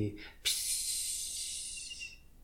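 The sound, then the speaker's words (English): A voice makes a soft, steady hissing spray sound, imitating an airbrush set to a larger size gently spraying a glow. It starts with a faint breathy onset, then holds a bright, even hiss for nearly two seconds before fading out. “and then set your airbrush to a much larger size and very gently, very gently spray a glow.”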